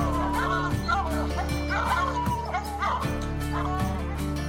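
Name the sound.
hunting dog barking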